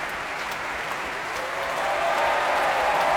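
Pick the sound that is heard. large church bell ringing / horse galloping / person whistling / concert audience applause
concert audience applause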